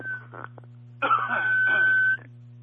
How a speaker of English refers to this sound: I'm going to have to clear my throat.